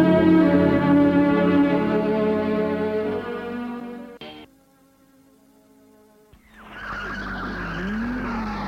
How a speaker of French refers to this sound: Il était réveillé dans la nuit par des bruits qui proviennent de la rue. Voiture qui a freiné.